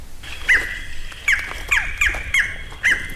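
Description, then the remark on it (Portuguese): A barred forest-falcon in a forest gives six sharp, barking notes at slightly irregular intervals, fairly clear, over a steady high insect-like hum in the background. “A conversa flui entre a imagem de som eletrônica do Falcão Caburé e o Falcão Caburé, presente na mata.”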